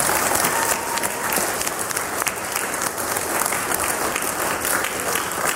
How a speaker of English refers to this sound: How about a round of applause for their decision?